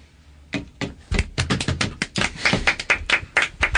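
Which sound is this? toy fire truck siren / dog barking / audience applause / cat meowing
audience applause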